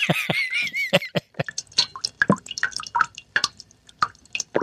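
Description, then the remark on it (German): Water drips steadily from a tap, a rapid, slightly irregular series of plinking drops with varying pitch, each landing with a bright little splash, with no voices. “Dann spiele ich jetzt für Sie das Tropfen eines Wasserhahns und der tropft ja wirklich lang.”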